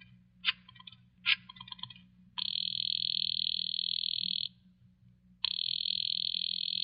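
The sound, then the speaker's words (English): A couple of quick clicks, then a telephone ringing down the line: two long, steady buzzing rings separated by a short pause, heard over a low background hum. “I decided to phone him.”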